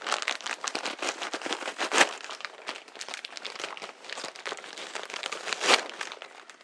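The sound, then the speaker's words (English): A very hot, crinkly paper popcorn packet is torn and pulled open, a dense run of rustling and crackling with two sharper loud crunches, no voices. “A very hot packet of popcorn there.”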